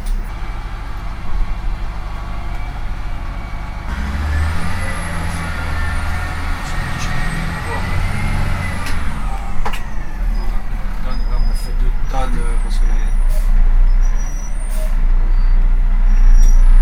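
A heavy 19-tonne garbage truck engine rumbles, with a high whistling hiss and sharp air-brake releases and clanks over a steady low drone, growing louder toward the end.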